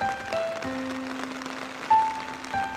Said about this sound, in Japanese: だって雨降ってるんだもん。